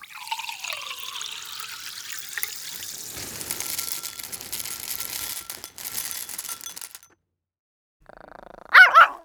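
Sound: dogs barking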